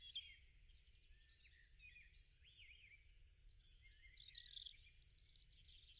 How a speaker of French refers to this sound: Tu entends le gazouillis des oiseaux.